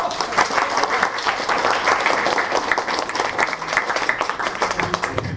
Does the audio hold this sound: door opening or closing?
no